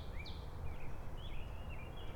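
Small birds flopping around on the ground chirp faintly in short, high twittering bursts, several in a row, set against a low, steady outdoor rumble. No one is speaking.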